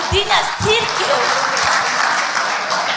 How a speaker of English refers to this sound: Clap for Jesus for giving us a church.